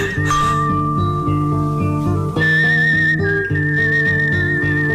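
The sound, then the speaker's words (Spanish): A person whistles a steady, high tune over dense, loud instrumental music, holding long notes with a few pitch changes. Nobody speaks. “Ay, hasta me dan ganas de silbar.”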